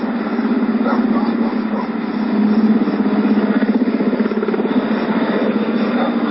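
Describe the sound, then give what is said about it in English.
Three types of military helicopters, including big troop transports and one painted like the presidential helicopter, fly overhead over a river by an airport, a loud, steady rotor roar with a rapid chopping pulse running through it, continuous for the whole stretch with no voices. “As we can see, there are three different types of helicopters here.”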